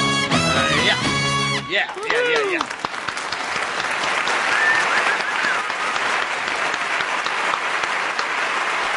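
A burst of orchestra music cuts off, then an audience breaks into loud, sustained applause, a dense steady clatter of many hands clapping with a few whoops mixed in for several seconds.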